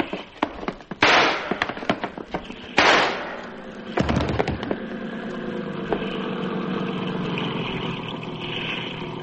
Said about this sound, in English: got two shots. The first one missed me.